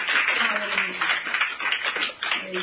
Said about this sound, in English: Can you clap your hands and just love on the Lord? Amen.